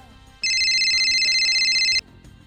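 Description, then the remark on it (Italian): A telephone rings loudly for about a second and a half, a steady electronic ringtone with rapid trilling pulses, then cuts off abruptly, with faint background noise before and after. It is the first listener phone call coming in to an Italian internet call-in broadcast. “Prego della regia, perché c'è già una prima telefonata.”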